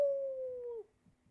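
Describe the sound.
A person imitates a wolf howl with one long, steady sustained note that wavers slightly and drops off sharply at the end, fairly loud, followed by faint quiet sounds.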